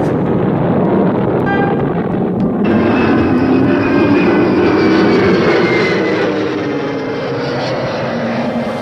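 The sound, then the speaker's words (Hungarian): An aircraft engine roars steadily and loudly throughout while the left number two engine is on fire, extinguishing is switched on and the aircraft is landing; its droning pitch slowly rises and shifts, with no voices, just a dense mechanical rumble. “A bal kettes motor ég! Oltást bekapcsoltam! Leszállunk,”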